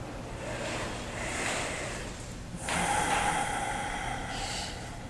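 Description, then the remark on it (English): A slow, deep breath drawn in and then let out, airy, with a longer, louder exhale that hisses softly. No voices. “You may want to take some deep breaths to get started.”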